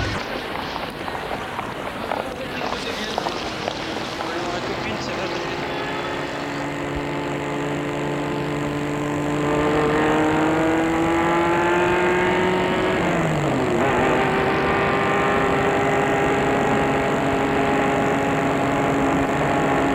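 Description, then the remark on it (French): A car engine cranks and starts, then its steady hum rises in pitch as the car pulls away, dipping once as it shifts gear and climbing again. No one speaks. “Et Philippe entre dans sa maison et Galien dans la voiture.”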